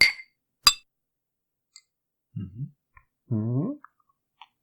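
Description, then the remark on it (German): Two sharp glassy clinks of Astra beer bottles knocking together in a toast, followed by soft swallowing and gulping sounds with a few faint clicks. “Ich sag mal Prost, …. Prösterchen.”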